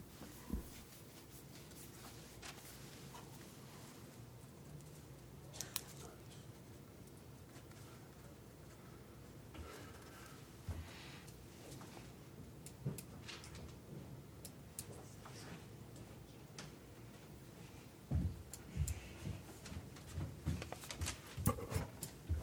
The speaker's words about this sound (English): I clearly need to block off some time on my calendar to update my calendar. You know, if you had automatic systems to feed that? It's paper. I had to just go scratch all this stuff out.